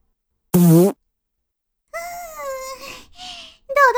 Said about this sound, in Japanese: どう？私のおなら。これが嗅ぎたかったんでしょう？